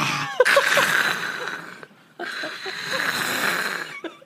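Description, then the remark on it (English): Someone voices a dragon roar: two long, raspy, breathy growls with a hissing edge, split by a short pause, with no words spoken. “Why is it a cat every time a dragon sound comes out of my mouth?”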